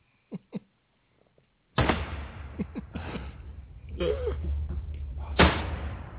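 A sudden loud crack and crash as a chair gives way, followed by scraping, clattering debris and another sharp bang near the end, with faint voices in the background.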